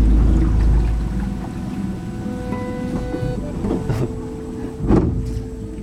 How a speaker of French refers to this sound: Là, on a fait 5 minutes de bateau, en gros.